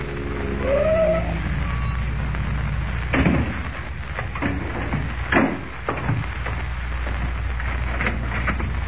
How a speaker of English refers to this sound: The following morning, before Lois and Jimmy awaken, Kent, in a car borrowed from Graham, pulls up before the real estate office of Ed Jenks.